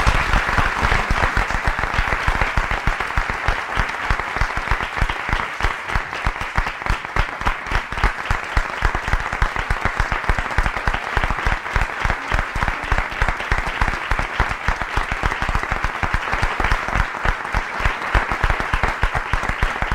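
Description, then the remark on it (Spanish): Sustained applause from a large audience in tribute to the memory of maestro Eduardo Toldrá, during a Sociedad Española de Radiodifusión homage broadcast from the Radio Barcelona studios; dense, steady clapping for the full twenty seconds without letting up, with no voices rising above it. “Imagínense ustedes todo esto y rindan los últimos, los definitivos aplausos a la memoria de esta figura excepcional que se llamó Eduardo Toldrá.”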